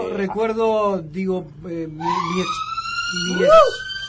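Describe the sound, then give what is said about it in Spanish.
A wailing emergency siren rises and sweeps from outside, steadily growing louder, while a person talks over the first half before the siren dominates. “Otra sirena.”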